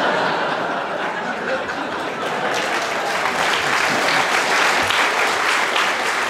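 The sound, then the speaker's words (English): Sustained audience applause, a dense crackle of many hands clapping at steady loudness throughout, with a few scattered chuckles mixed in, indicating a bonus point for Clement Freud. “The audience applause indicates that you deserve a bonus point, Clement.”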